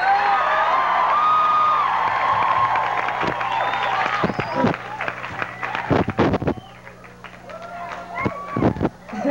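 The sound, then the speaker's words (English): An audience claps steadily amid cheers and high whoops, the dense applause thinning after a few seconds into scattered individual claps and sharp bursts. “Thanks for clapping.”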